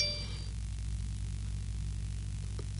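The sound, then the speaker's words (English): A brief phone message notification ding rings out at the very start, bright and tonal, fading within half a second over a steady low background hum; a faint tick follows later. “People, can you not mail me like directly now because I'm using my phone? Let me just put on silent.”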